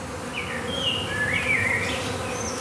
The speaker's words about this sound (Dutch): Bij iedere klap zoomen er meer bijen rond mijn onbeschermde armen en benen.